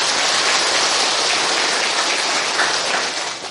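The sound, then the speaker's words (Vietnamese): A crowd claps in a dense, steady wash of applause, loud, holding evenly for a few seconds before easing off slightly at the end. No one speaks over it. “Cho một tràng pháo tay.”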